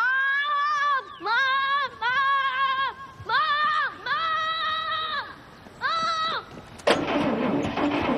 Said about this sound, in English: Your car sounds broken, George.